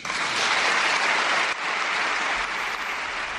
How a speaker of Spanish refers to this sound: Aplausos, ya digo, al rey emérito y a la reina doña Sofía cuando Felipe VI los ha mencionado, después de un formidable discurso de la presidenta Ana Pastor